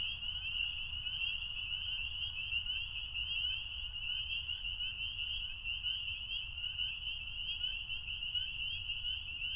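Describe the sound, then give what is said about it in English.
A dense chorus of spring peepers giving their mating call, their shrill, high-pitched peeps blending into a steady, continuous ringing over a low background rumble, with no voices. Recorded at night on a farm. “Well, this is actually the mating call of the spring peeper.”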